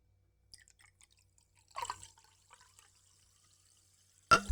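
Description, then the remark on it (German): A fizzy drink with little carbonation pours briefly into a glass, followed by scattered faint drips and a soft, thin fizz, then a sudden loud clatter at the end. “Weil nicht genug Kohlensäure drin ist.”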